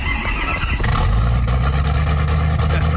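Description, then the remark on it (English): An F-150 truck engine cranks and roars to life, then settles into a loud, deep rumble with rising revs, with no one talking. “Yeah, fire that truck up.”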